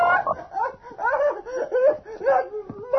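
A large frog croaks repeatedly in a fairly loud run of throaty, wavering calls, each rising and falling in pitch with brief pauses between them.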